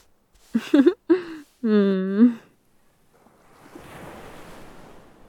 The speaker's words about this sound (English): Don't you just love the sound of the ocean?